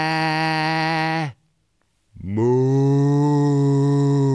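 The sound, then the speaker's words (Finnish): A person imitates a cow's moo with two long, loud, steady lowing calls, separated by a brief silence. The second call swoops upward at its start before holding its tone. “No, toden totta, minäkin osaan matkia eläimiä. Mää. Mää. Muu.”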